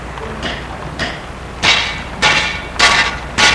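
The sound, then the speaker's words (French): Six metallic taps ring out at a steady pace as someone taps around a slab to loosen it and clear away the earth and dirt around it, the first two light and the last four harder and more resonant, with a brief clanking ring after each strike and no talking. “Il tape autour de la dalle pour la desceller, pour retirer la terre, la saleté qui est autour. Ça fait un bruit de ferraille qui résonne.”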